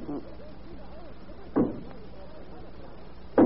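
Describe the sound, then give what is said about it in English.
Isolated dull knocks, a few single raps spaced roughly two seconds apart, each short and moderately loud against a quiet, faintly murmuring background; taken for knocking at the door, they seem to come through the wall from the dining room. “run and see who is that at the door.”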